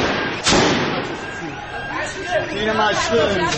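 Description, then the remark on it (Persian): A single sharp gunshot bang, fired toward protesters, cracks out near the start, followed by a crowd of agitated voices chattering and calling out in the background. “با این همه هنوز در میان اهالی محل کسانی هستند که باور نمی کنند این تیرهایی که به سمت معترضان شلیک می شود واقعی باشد.”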